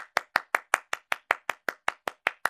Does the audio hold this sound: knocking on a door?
no